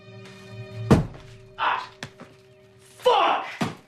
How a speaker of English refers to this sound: He takes a packet of popcorn from a cupboard, and as he straightens up, he bangs his head.